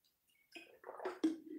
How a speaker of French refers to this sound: Je prends juste une toute petite gorgée d'eau parce qu'il fait bon encore en ce moment.